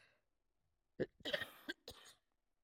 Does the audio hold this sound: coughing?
yes